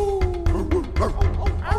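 A dog barks in a quick series of sharp, repeated yelps, loud, over a steady low hum in the background.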